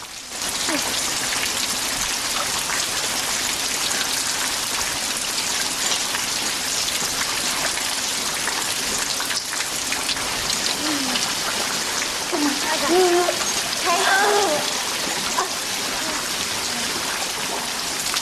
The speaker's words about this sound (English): They gather in another passageway with water dripping over them.